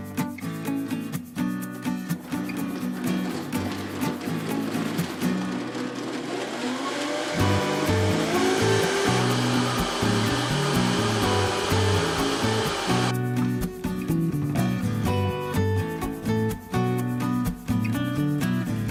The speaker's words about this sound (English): Half cup toasted sesame oil. Blend on high.